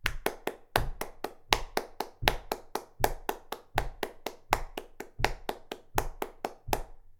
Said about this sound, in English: And now, to make it a bit more fun, we're going to do triplets. That's three claps on one beat.